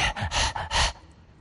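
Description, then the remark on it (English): A person imitates a dog panting: three quick, breathy huffs in a steady rhythm, fairly loud, then quiet. “Verse 131, I opened my mouth and panted. And let me add my own little side note, like a dog.”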